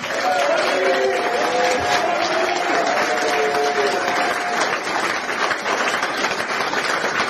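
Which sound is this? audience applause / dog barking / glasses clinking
audience applause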